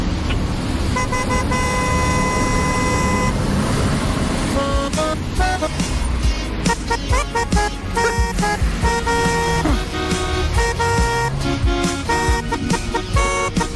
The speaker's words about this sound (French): Michel Claxon qui est venu avec deux tubes …, mais au klaxon